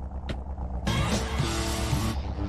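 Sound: car driving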